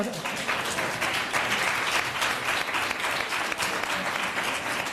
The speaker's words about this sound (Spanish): Te están aplaudiendo, Yolanda, te están aplaudiendo.